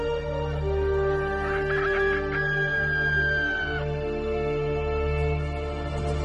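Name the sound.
rooster crowing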